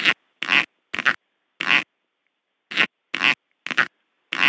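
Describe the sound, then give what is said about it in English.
A snake farting on demand, rhythmically expelling bursts of air from its cloaca with enough force to lift its tail off the ground: eight short, high-pitched squeaky bursts, loosely grouped with brief silent gaps between them, heard alone with no talking. “So they can fart on demand, and they actually do it with enough force that they can lift their tail up off the ground by doing it.”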